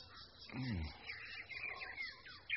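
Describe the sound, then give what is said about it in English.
A bird calls loudly with a run of high, chirping whistles and quick rising sweeps, one after another over a low background hum, with a brief deeper voice-like sound near the start. “Oh, that bird is loud.”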